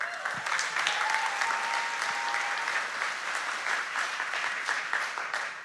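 A crowd applauds steadily for several seconds, a dense wash of clapping that holds a fairly even loudness throughout, with a few faint voices calling out beneath it.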